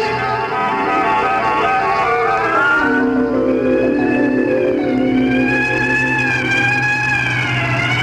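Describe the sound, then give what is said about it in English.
A private ambulance's siren wails loudly, its tone sliding slowly up and down over a steady low engine rumble, with no voices present. “We'll get you an ambulance.”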